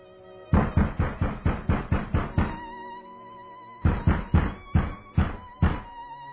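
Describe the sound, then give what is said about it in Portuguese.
Hurried, loud knocking by a messenger on the door of a senator's residence in the early morning: a fast run of about eight heavy raps, a short pause, then a second burst of six more pounding knocks. No voices are heard. “Porém, nas primeiras horas da manhã seguinte, um mensageiro apressado bate com alarde à porta da residência do senador.”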